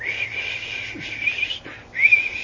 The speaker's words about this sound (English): And I thought, as I listened to her whistle, I was thinking, I used to whistle a lot more than I do now. So I thought, well, let me see what my whistle sounds like.